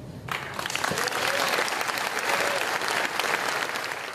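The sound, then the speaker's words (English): An audience bursts into applause after Liz Truss says she is ready to order the use of nuclear weapons, a dense, steady wash of many hands clapping that starts abruptly and holds at a loud, even level for several seconds. “Why are they clapping?”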